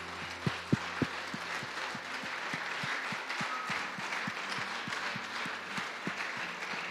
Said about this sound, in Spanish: Si usted se puede poner de pie, le pido medio minuto. Usted se puede poner de pie medio minuto, por favor. Y le puede brindar la mejor ofrenda de palmas a la presencia del Señor, al Espíritu Santo que está en este lugar.